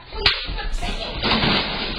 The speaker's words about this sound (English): I didn't see the the first one didn't catch the punching in the face. First. Oh my god, that's horrible. That is absolutely fucking horrible.